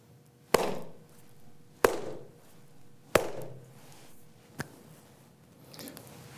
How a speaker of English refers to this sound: And our meditation sessions start usually with three slaps of a stick called a chukpi, but I don't have one with me, so I'll just clap my hands, and they end the same way.